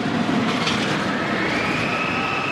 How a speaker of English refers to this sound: Families are scampering through the amusement park at the center of the facility. And as kids whiz around on roller coasters, their screams echo throughout the space.